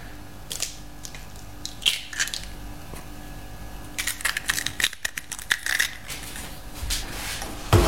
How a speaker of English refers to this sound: Pour in the egg and mix to form the dough.